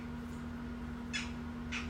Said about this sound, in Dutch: Er zit opeens een vogel super te kraaien.